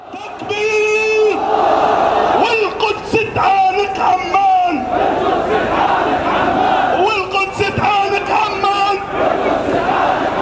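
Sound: protest crowd chanting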